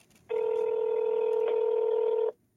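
A single steady telephone tone from an outgoing call, holding for about two seconds at an even, fairly loud level before cutting off cleanly, with no voices.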